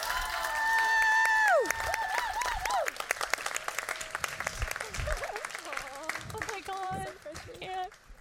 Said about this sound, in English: Please give one more round of applause for Princess Moon.